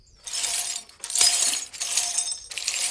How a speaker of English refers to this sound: Jasper ran towards the smashed window and started to clear the rest of the glass.